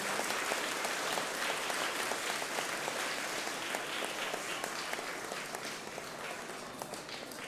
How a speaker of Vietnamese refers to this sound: kính thưa các bậc phụ huynh của gần 800 cháu mầm non và thiếu nhi đang có mặt tại ba lầu, tầng 1, tầng 2 và tầng 3 của chùa Giác Ngộ, cho một tràng vỗ tay thật lớn để tán dương sự có mặt của tất cả chúng ta.